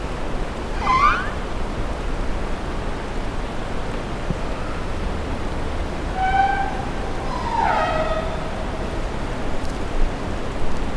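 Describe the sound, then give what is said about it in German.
Humpback whale calls underwater: a few rising, harmonic cries, some sliding tones and a burst of pulsed notes, heard over a steady hiss of background noise. “Ja, tatsächlich haben wir ein paar Buckelwale auch mal gehört.”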